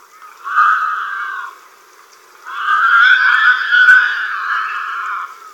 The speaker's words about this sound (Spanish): Por los chillidos parece que les estuvieran matando. Pero en realidad se pelean, con grandes aspavientos, por algunas raíces.